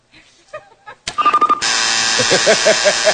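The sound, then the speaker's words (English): After a moment of faint sounds, a quick run of bright beeps leads into a loud, harsh game show buzzer as a contestant buzzes in to answer a quiz question; it blares steadily for about a second and a half with a pulsing edge. “Oh, he buzzed in?”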